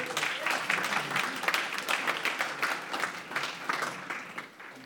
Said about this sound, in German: Herzlichen Applaus